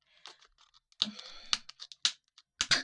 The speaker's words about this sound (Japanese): ちょっと開けますよ、開封。ハサミでね。ハサミで、この、あ、ハサミダメだ。ちょっと、ハサミが貫通できなかった。